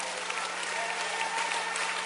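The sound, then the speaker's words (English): A church audience applauds together, giving the Lord a hand clap at the preacher's call, dense hand clapping filling the room in a steady, continuous wash of claps at moderate volume, with no voices standing out. “Oh, go ahead and give him a hand clap in the house.”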